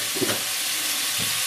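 Meat rouladen are browned in lard in a hot pot, giving a steady, dense sizzling hiss throughout, broken by a couple of brief low knocks near the start and end. No one speaks.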